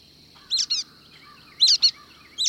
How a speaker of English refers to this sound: The brown-headed nuthatches foraging here are tool users. A bird will break off a flake of pine bark and use it to pry up another flake to expose the insect hidden beneath it.